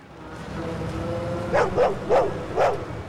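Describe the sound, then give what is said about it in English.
A large dog, an Alsatian, barks four times in quick succession, loud, as it leaps onto a car's bonnet, after a moment of low steady rumble that continues underneath. “Manny lets Bernie into the car just as the Alsatian leaps on the bonnet.”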